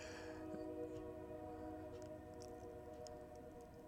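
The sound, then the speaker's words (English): A freight train horn on the Norfolk Southern Railroad, which runs near a residential building, sounds one long, steady blast over a low rumble, sustained for the whole stretch with no talking. “There's the whistle again, and that one's on the Norfolk Southern Railroad.”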